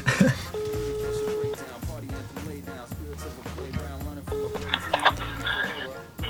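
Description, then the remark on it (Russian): Steady electronic phone tones sound at a moderate level as a random phone number is dialed, one longer tone near the start and a shorter one later, layered over a busy background of voices and other noise. “Мой код пройдет по телефону сейчас и наберет какие-то цифры, и мы просто позвоним по ним.”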